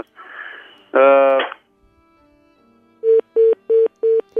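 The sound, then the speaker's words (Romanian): A burst of harsh, buzzy tone is followed by a short pause, then five evenly spaced loud beeps of a busy signal as a listener's phone call drops. “Între timp, telefonul ascultătorului nostru s-a întrerupt.”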